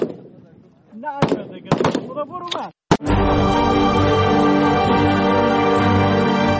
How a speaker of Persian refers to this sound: با آن هم این زنان بی توجه به آینده ناروشن تلاش دارند تا گلوله هایشان به هدف بخورند و برای کشورشان تأمین امنیت کنند.